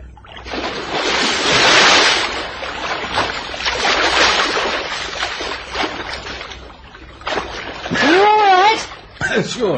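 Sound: ocean waves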